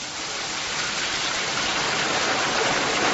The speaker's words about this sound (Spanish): Bueno, pues naturaleza, agua... Agua, cantos de pájaros que van a aparecer por allí.